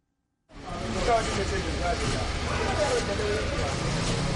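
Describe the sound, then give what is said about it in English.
Cars idle and creep along in a long queue waiting for gas at a fuel station in Abuja during an acute fuel shortage, engines rumbling steadily beneath a constant murmur of people talking. “In Abuja, the lines of cars waiting for gas are growing longer.”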